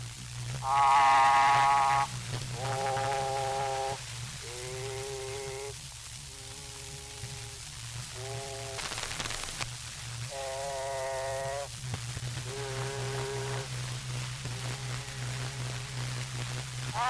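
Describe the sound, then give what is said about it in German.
Playback of an old experimental phonograph cylinder recording from the Berlin Phonogram Archive: a steady hum and hiss underlie a series of about nine short, sustained nasal tones at varying pitches, each lasting a second or two. “Ausschnitt Originalton Experimentalwalze Karl Stumpf. Berliner Phonogrammarchiv Nummer römisch 7W 7155”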